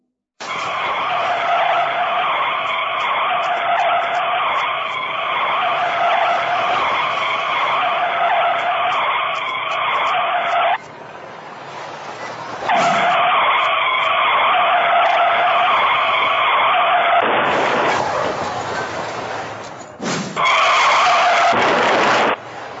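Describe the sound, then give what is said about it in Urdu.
Loud, sustained tire screeching from cars skidding on a snowy, slippery road runs almost continuously, broken twice by harsh, noisy impact bursts as a car from behind hits one car and then another, then the squealing resumes. No one speaks. “پیچھے سے اس گاڑی نے آ کر پہلی گاڑی پھر دوسری گاڑی ٹکرائی.”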